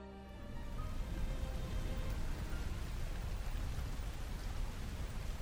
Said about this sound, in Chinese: 天上开始下雨了，雨水不停地打在他赤裸的身上，分不清他脸上是雨水还是泪水。